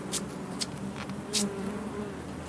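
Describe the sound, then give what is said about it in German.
A steady, droning hum of many honeybees buzzing around a hive frame, with a few sharp knocks as the beekeeper pulls out the first frame and taps the bees off it. “So, dann ziehen wir mal die erste raus und klopfen die Bienen ab.”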